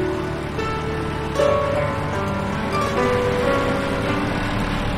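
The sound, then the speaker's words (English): A large tractor's heavy engine rumbles steadily, its droning tone stepping up and shifting a couple of times as the tractor slows and is parked outside a barn on a farm. No voices. “Annie parks a large tractor outside the barn.”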